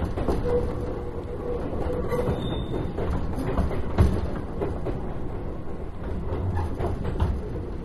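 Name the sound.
train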